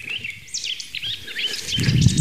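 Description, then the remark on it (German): A song thrush sings a quick run of varied, whistled phrases, clear, with a low rumbling noise rising underneath near the end. “Singdrossel. Ah, die hat bis zu 100 Motive, imitiert auch sehr viel.”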